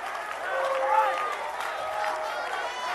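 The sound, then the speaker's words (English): Raucous applause from a crowd, a dense steady roar of clapping lasting the full three seconds, with shouts and cheering voices mixed into the noise. “Raucous applause.”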